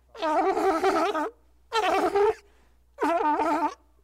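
At a sea lion show at the zoo, a sea lion trying to sing lets out three loud, raspy, wavering honks, the first longest and the next two shorter, each separated by a brief pause, with no talking.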